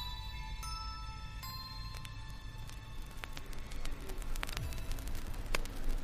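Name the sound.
static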